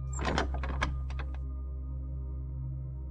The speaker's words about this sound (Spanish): La puerta se abre.